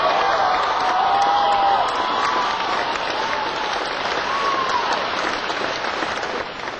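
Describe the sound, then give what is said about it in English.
An audience breaks into sustained applause for the drummer, a dense wash of clapping with scattered whistles and cheers rising above it, holding steady before tapering slightly at the end. “Give him a big applause.”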